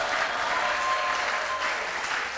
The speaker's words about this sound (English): If I have witnesses in this place, let your shout be louder. Let your clap be louder.